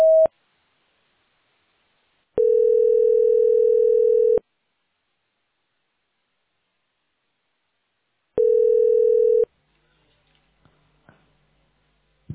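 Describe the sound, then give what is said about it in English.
A voicemail system's recording tone: a steady electronic beep sounds, then a two-second mid-pitched tone, a silent gap, and another identical tone, followed by faint clicks and small taps. “At the tone, please record your name.”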